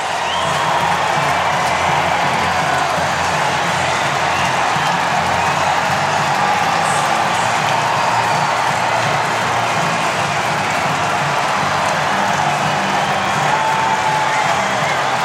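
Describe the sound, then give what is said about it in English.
A huge baseball stadium crowd roars continuously after a game-winning home run with the bases loaded, a dense wall of cheering, whooping and clapping that stays loud and sustained from start to finish with no talk breaking through. “to win the game. Listen to this crowd.”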